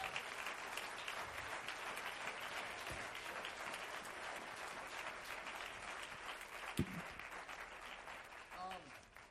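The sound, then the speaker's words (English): An audience claps their hands to give God glory, in sustained, dense applause that stays loud and steady throughout, with a few voices rising briefly near the end. “Well, let's clap our hands and give him a little glory.”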